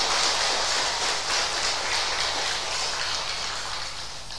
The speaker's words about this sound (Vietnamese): Xin tất cả dành tràng vỗ tay chung để tán dương công đức.